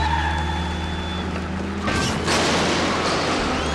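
Racing engines drone steadily as race cars start a Piston Cup race, then a sudden loud crunching impact bursts out as several race cars crash into each other, followed by a rough, noisy clatter of colliding cars that continues to the end.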